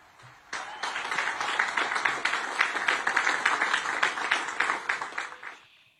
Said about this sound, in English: Did you hear that very light applause, by the way? Most of the applause you heard were from the commanders sitting on the stage right around Trump to kind of boost the crowd a little bit.